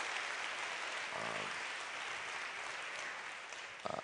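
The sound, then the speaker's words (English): Sustained applause from an audience giving a round of applause to the Commonwealth Club, a dense wash of clapping holding steady for several seconds, with a few brief voiced bursts poking through near the end. “can we please give a round of applause to the Commonwealth Club for being willing to even give an opportunity for these voices to be heard?”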